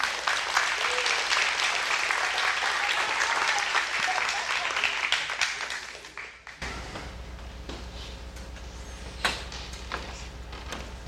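An audience claps for a woman coming up to give a testimony, a dense, steady burst of applause for about six seconds, then it quickly dies away, leaving a low hum and a few scattered taps and clicks.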